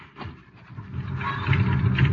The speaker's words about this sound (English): There's a car coming. Could be them.